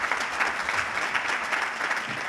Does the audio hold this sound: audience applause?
yes